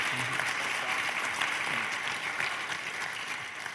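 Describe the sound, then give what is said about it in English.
Sustained applause from an audience at the Faithful Stewards Conference, thanking the organizers and staff: a dense steady patter of many hands clapping at an even loudness throughout, with faint voices mixed underneath. “We still have 45 minutes left, so you may want to hold that applause.”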